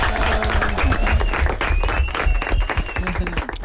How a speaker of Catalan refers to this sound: Un aplaudiment. Molt bé.